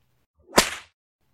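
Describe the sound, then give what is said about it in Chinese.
A single sharp whip lash cracks out of near silence, a bright, hissing snap that tails off quickly in under half a second. No voices accompany it. “你这个骚狗，主人这么鞭打你，你应该感到非常的荣耀才是。”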